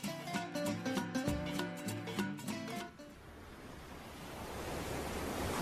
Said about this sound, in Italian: Ma guarda quelle onde, Johnny. Guardale!